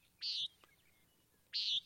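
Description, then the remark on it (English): Two short, buzzy nasal calls of a common nighthawk, each a harsh 'peent' lasting about a quarter second, spaced over a second apart and heard clearly against a quiet background. “So if you're seeing funky dinosaur-like birds flying in the sky, these are nighthawks, and this is what they sound like.”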